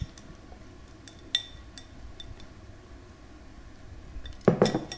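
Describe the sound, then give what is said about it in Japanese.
Carbonara pasta, mixed with egg and cheese, is served onto a plate as metal utensils clink against the dish, with a few sharp taps early on and a louder cluster of scraping clatter near the end, with no talking. “皿に盛り付けます。”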